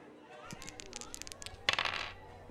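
A quick series of small hard clicks and taps, then a louder clattering rattle as dice tumble across a hard surface and settle, brief; the second dice roll of a game.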